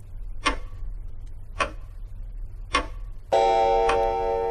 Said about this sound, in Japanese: あ、この大きい柱時計、私大好き。 これは俺が生まれた時に親父が買ってくれたものだそうだ。